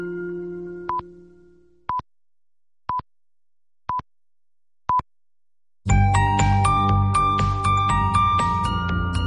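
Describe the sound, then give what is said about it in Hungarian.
Kossuth Rádió time signal pips marking 11 o'clock: five short, identical high beeps spaced exactly one second apart over silence, followed immediately by a loud burst of bright music. “A pontos idő 11 óra.”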